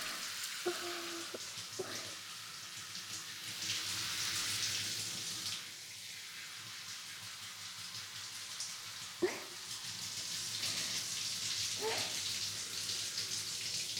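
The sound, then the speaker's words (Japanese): A steady rush of water pours from the top and splashes continuously, rinsing suds off the whole thing, with a few soft knocks and clatters breaking through the hiss. No one speaks. “最後は てっぺんのところからかけて全体を流しています。”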